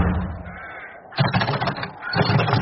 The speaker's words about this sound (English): Oh, dear. I think this door's jammed. What? I can't open it. It's stuck. It can't be stuck. Let me have a go.